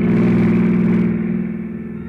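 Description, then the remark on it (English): A long, yellow convertible car approaches fast, headlights sweeping; its engine roars loudly with a deep, steady hum. After about a second its hiss drops away and the sound slowly eases off. No one speaks. “When the sudden splash of a pair of headlights sweeping my way fast sent me sprawling for cover without so much as a reason why.”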